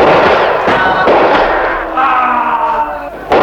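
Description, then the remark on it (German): A volley of gunfire: several sharp cracks burst out over a dense, roaring din, with a shouted, tonal cry rising in the middle before another loud shot. “Feuert, Leute! Feuert, was das Zeug hält!”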